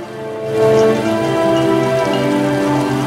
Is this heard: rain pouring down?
yes